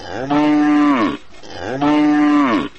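A cow moos twice, loud, each call a long, steady low bellow lasting nearly a second with a brief pause in between.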